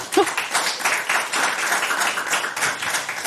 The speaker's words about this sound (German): Und einen herzlichen Applaus, bitte.